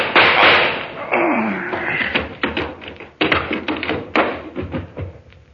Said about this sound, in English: All I need is this gun. What gun? Yeah, the kind that goes bang, bang, like this.